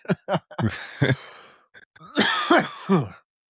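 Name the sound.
coughing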